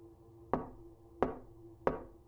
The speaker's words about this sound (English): One day, I was in my office writing, and I hear a knock at the door.